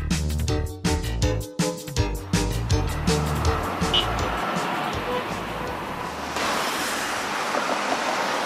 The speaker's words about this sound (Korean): 베이징 거리를 보여주는 영상을 보면 분명 자동차 경적 소리는 들리는데 화면은 뿌연 스모그 때문에 자동차가 지나가는 모습조차 제대로 보이지 않을 정도입니다.